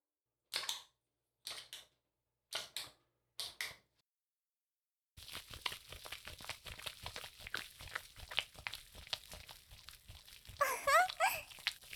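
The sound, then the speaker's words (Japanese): Four short, separate squishy bursts, then about seven seconds of steady, wet, crackling lathering as soap is worked into foam for washing a person's body. The squelching rises briefly toward the end, with no talking. “泡立てるから、ちょっと待ってね。”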